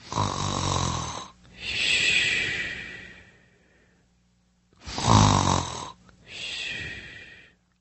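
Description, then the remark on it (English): A person snoring, two full breath cycles each with a rough, rattling inhale followed by a breathy exhale, separated by a short quiet pause. No talking. “I know, it's pretty ugly, but that is me snoring.”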